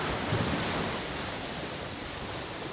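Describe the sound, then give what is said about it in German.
Steady ocean surf rushing and washing in a broad, continuous roar, with no voices, moderately loud, as waves break and spread without distinct individual crashes. “Ja, da hören Sie es, das Meer.”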